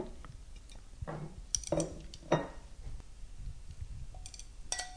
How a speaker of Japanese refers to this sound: さあ、これをお皿に盛り付けますね。